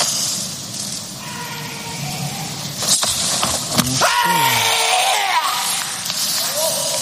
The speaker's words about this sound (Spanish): Ese giro completo con un salto y un kiai, su último grito de este kata con el que quiere ser campeón olímpico. Es el grito que vamos a escuchar ahora mismo.